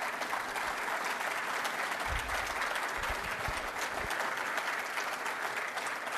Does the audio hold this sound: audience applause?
yes